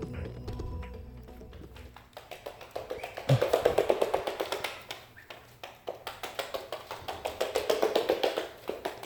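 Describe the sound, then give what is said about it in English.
A duck running down a hallway: a rapid, steady patter of light slapping footfalls that swells louder in two waves, with no voices. “This is a duck running down a hallway.”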